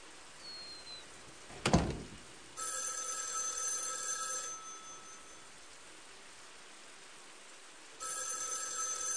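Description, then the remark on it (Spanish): A telephone rings in two long bursts with a pause between, the second starting near the end, after a brief sharp knock or click. Clear, with no voices. “está sonando el teléfono.”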